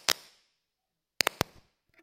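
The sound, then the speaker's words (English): Sharp firecracker pops: a single loud crack, a pause, then a quick burst of three snappy bangs with brief echoing tails, followed by a faint pop. “It's firecrackers, don't have to worry about it.”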